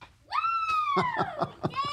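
A woman lets out a long, loud, high-pitched celebratory scream, then breaks into a quick run of excited yelping bursts before a final squeal.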